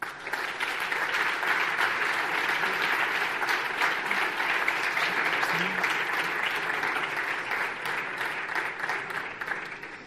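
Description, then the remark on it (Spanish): Sustained audience applause at a Cadena COPE awards ceremony as IMS Control Industrial receives the Oliva 360 category award: a dense, steady wash of many hands clapping at an even loudness for about ten seconds, with no voices rising above it. “Un fuerte aplauso.”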